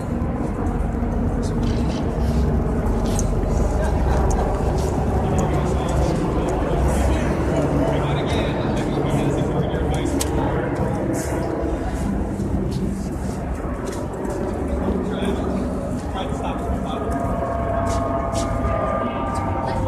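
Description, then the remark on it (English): Two helicopters flying overhead, a loud, steady rumbling drone with a faint rhythmic chop, holding constant for the whole stretch, with muffled voices underneath. “Helicopters, there's two of them.”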